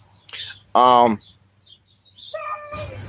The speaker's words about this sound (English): We got dogs barking over there. Someone's got the zoomies.